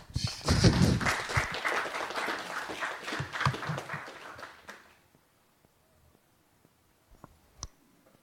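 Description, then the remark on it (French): An audience claps for about five seconds, a dense crackle of many hands that swells early then fades out, followed by near silence with a few faint isolated clicks. “On peut applaudir aussi avant.”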